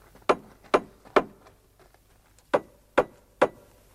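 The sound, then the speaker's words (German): Someone knocks on a wooden front door in two sets of three firm, evenly spaced raps with a short pause between them. The knocks are clear, with no voices. “Komm, klopf mal. Da muss doch irgendwo eine Klingel sein.”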